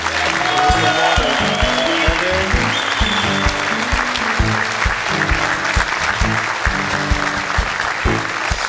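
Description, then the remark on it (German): A TV studio audience applauds steadily for several seconds as Stefan Effenberg is introduced on the show, the dense clapping sustained and loud, with a music bed playing underneath and no talking over it. “Und bei der letzten Sendung hat er das Applaus-Battle gewonnen.”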